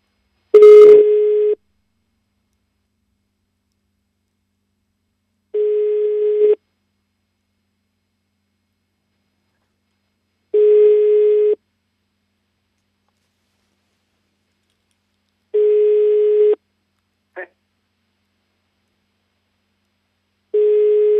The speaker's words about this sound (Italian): Squilla il telefono.